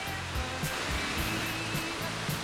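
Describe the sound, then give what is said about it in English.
Heavy rain from a tropical storm, coming down outside, comes through the microphone as a dense, unbroken hiss, much like static, holding steady at a moderate level, with faint low thumps underneath and no voices. “It just sounds like static on the mic, it's a...”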